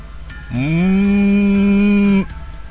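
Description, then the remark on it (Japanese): A loud, low, eerie growl bursts from a shaking jar, made of many low adult voices mixed with a little girl's voice and a dog's. It swells in suddenly and holds one steady, buzzing moan-like pitch for nearly two seconds before cutting off sharply, with no one speaking over it. “吹き出すようにあの地獄からのうなりが響いた。”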